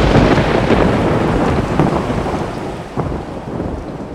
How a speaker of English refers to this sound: Then, just before 1 o'clock in the morning, a bolt of lightning lit up the sky, followed immediately by an intense clap of thunder.